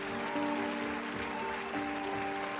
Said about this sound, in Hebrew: ואז, משום מקום, מישהו מוחא כפיים. ובבת אחת כולם נעמדים ומריעים.